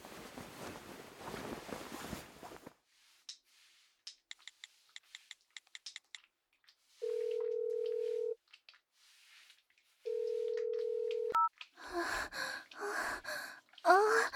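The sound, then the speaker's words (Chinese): A quick series of short phone keypad beeps as a call is placed to an older sister, followed by two long, steady ringback tones separated by a pause, with heavy breathing before and after the call connects. “我现在就打电话叫姐姐过来。”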